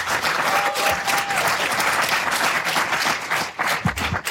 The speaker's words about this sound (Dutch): Mag ik een heel groot applaus voor Teun van de Elzen?